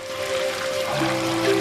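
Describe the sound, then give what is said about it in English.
Bath water sloshes and swirls steadily as Churchill wallows in a 98-degree bath, a continuous watery wash with a faint low hum running beneath it. “Churchill wallows in the water.”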